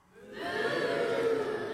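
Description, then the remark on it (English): A large crowd of people imitates a cow together, a drawn-out, swelling chorus of low mooing voices that rises within the first half second and holds loud and steady to the end. “When I say an animal, you tell me their noise.”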